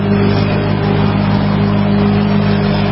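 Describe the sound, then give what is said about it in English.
A steady, droning small engine runs continuously at a constant pitch, a lawn mower mowing on the fairgrounds, heard through an open window, a low humming rumble with a buzzy edge, no voices over it. “I can't have that much noise in the mower on the fairgrounds here.”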